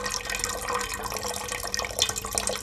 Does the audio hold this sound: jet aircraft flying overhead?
no